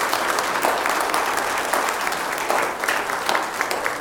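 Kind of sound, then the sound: crowd, church audience applauding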